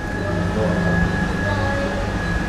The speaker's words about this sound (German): Das Brummen der Softeismaschine ist die ewige Hintergrundmusik. Die Eisdiele wurde 1952 eröffnet, noch bevor Kenia von Großbritannien unabhängig wurde.